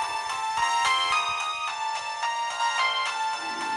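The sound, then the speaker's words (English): A mobile phone ringtone, played from a person's cell phone to show it, plays a bright, synthetic melody of quick repeated notes in a steady rhythm, fairly loud, with no one speaking over it. “And they pull out their cell phones and play me their rings.”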